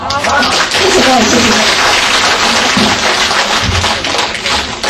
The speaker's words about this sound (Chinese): 我们再给他一个掌声。